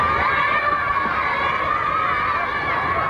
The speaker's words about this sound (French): Tous les jeunes se mettent à crier et entourer le pauvre homme.